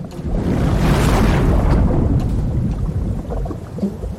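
A loud, continuous roar of crashing waves and a thunderstorm at the rock of Scylla in the Strait of Messina, with a deep rumble that swells early on and then churns steadily. No voices.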